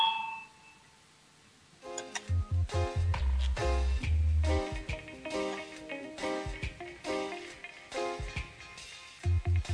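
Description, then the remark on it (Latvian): A parliament voting bell rings before a vote on the justice minister's proposal number 24: a brief fading chime opens, then a loud electronic bell signal sounds in repeated, pulsing bursts that carry on to the end, with no talking. “Lūdzu, zvanu balsosim par 24. tieslietu ministra Bordauna priekšlikumu”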